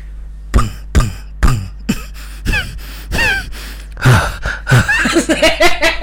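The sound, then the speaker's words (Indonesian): A string of sharp, breathy puffs and gasps hit a new HD microphone in quick succession, each a short burst of breath and air noise, growing denser and more rapid toward the end with no words spoken. “Alat baru, ada suara napas, ada suara udara.”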